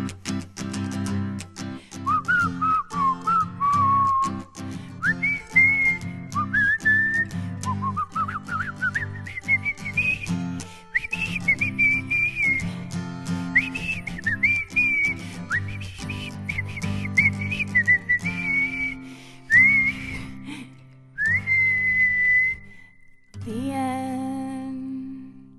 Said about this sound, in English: Oh, it's so hard to keep quiet through that, especially the whistling.